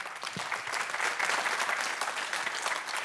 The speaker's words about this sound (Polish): Brawa dla Kasi, towarzyszącej nam przez cały dzisiejszy wieczór Orkiestry Polskiego Radia w Warszawie pod dyrekcją Grzegorza Urbana.